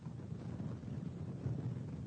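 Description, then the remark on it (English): Steady, low rumbling wind buffets a caller's microphone in windy New Jersey, a muffled roar that stays fairly loud throughout with slight surges, and no one speaks. “joining me this morning from the, obviously the windy city of New Jersey”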